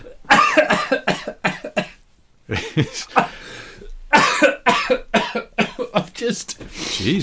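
coughing

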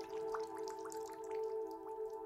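water dripping

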